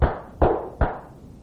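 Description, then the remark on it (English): Three deep, evenly spaced heartbeats in quick succession, each a heavy low thump with a boom that fades briefly before the next, like a fast heartbeat. No voices. “And then the heart will go like this.”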